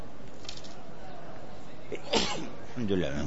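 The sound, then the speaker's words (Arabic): A single sharp, forceful sneeze bursts out after a quiet stretch, and a voice starts speaking right after it. “الحمد لله، يرحمكم الله.”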